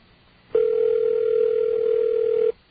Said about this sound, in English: We have a ring. Calling George Bush's press line. Yeah, this line is almost always busy. I can't believe it's ringing.